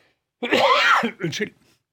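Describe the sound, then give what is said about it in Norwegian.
A loud, harsh cough bursts out in a long rasping hack from someone who is drinking something, followed a moment later by a second, shorter cough, with no talking around it. “drikker noe og har akkurat hostet opp milten sin.”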